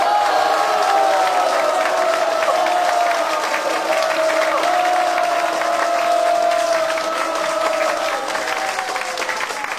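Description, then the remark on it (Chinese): A large audience claps steadily and loudly for about ten seconds, the dense patter of many hands mixed with sustained whoops and cheering voices throughout. “来一点掌声吧。”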